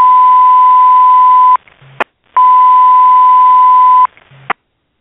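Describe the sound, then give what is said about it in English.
Two long, steady high-pitched alert tones from a fire dispatch system, the initial dispatch of an alarm of fire at 1815 Genesee between Burgard and Bailey, each followed by a brief radio click and low squelch burst, loud and clear with no voices. “if you could cue up the initial dispatch of the event, our listeners can begin to paint the picture.”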